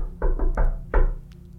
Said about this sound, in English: Calder, is it crazy if you do your little knock? Yeah, Calder's going to try the friendly knock.